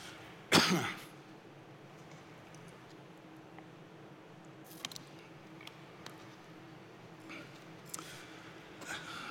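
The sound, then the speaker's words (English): A single sharp cough bursts out near the start, followed by quiet with faint clicks and a softer throat-clearing noise later on. No one speaks. “Maybe it doesn't feel like a sobering moment now after me coughing through all that, but it is.”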